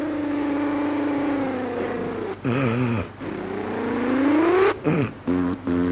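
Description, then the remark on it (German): An old 5-horsepower car is hand-cranked to start; its engine sputters and chugs, its pitch climbing and falling as it revs, with a few uneven coughing bursts near the end as it pulls away. “Da nehme ich mein Auto, meine 5 PS Reuxlong Sylle, kurbel sie an und flüchte zurück nach Brunsendorf.”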